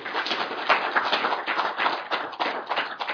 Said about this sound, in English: So let's just give them one round of applause to come out.